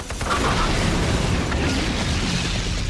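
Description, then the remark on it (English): A loud explosion, as gunfire ignites drums of fuel, erupts into a sustained, roaring rumble of burning fuel that fills the whole moment, with faint crackles and pops inside the blast. No one speaks. “His gunfire ignites drums of fuel.”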